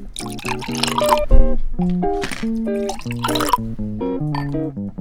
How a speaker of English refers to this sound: So I did sugar the rim on the glasses. So just roll your lemon juice around the top, and then we're just going to pour in the cranberry.